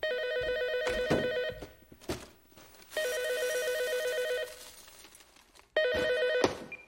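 A telephone rings in three loud bursts of electronic trilling, separated by short pauses filled with faint background noise; no one speaks.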